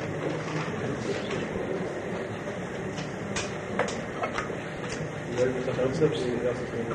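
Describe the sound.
A train rolls past with a steady, broad rumble and scattered clicking and clacking from the wheels, moderately loud throughout, while muffled voices murmur underneath.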